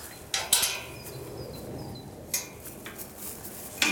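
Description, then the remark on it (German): A metal gate to a triple-fenced wild horse release enclosure being opened: a few sharp metallic clanks and rattles, two quick ones early on, then scattered knocks over a low steady background rumble, with no voices. “Dann öffne ich jetzt mal das Tor zur Freiheit.”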